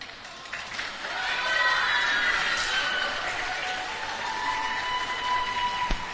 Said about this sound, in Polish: Tak, tak, to jest lokalny patriotyzm i rozumiem, że to są oklaski dla swoich, tak?